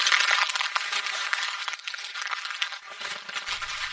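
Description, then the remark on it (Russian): Dry, papery crunching and crackling as a brittle, empty old wasp nest lying under a tree is touched, a dense run of crisp, bright crinkles with no voices. “Хрустит.”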